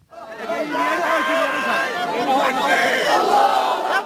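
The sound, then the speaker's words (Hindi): A crowd of thousands screams and chants slogans together at the burial of 31-year-old Kaiser Ahmad Bhatt, a dense roar of many raised voices that rises and swells continuously, loud and unbroken for the whole stretch. “ये चीखें और नारे 31 वर्ष के कैसर अहमद भट्ट के जिनाजे को दफनाने के समय जिनाजे में शामिल हजारों लोगों की हैं।”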